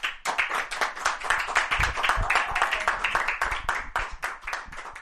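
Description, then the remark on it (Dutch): A crowd applauds two musicians after the first music of the Pocket Jazz series (Pocket Concerts), many hands clapping in a dense, continuous patter that stays loud throughout with no voices over it. “Geef ze nog een keer een applaus.”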